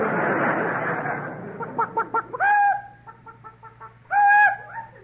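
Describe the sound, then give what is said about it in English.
A voice imitates a chicken, giving a quick run of short clucks followed by two louder, drawn-out squawking calls, with soft clucking in between and no talk. “Cluck. Cluck is the word for Casper.”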